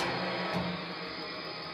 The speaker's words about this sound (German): Ähnliches hat der Ingenieur mit dem Gestell eines Schleifbocks gemacht. Eigentlich eine laute Angelegenheit. Aber dank der Resonatoren wird's erträglich.